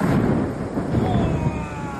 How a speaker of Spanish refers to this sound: Muchos pegaron un bote en cama al oír este gran trueno a las 2:30 de la madrugada. Los rayos, acompañados por granizo, se repitieron a las 8:30 cuando mucha gente estaba yendo a trabajar